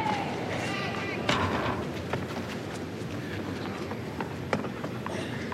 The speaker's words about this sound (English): Thudding sound of a ball girl returning to her position at the back of the court.